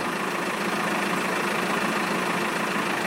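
bus engine idling

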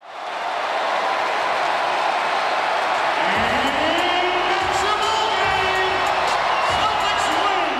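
arena crowd cheering

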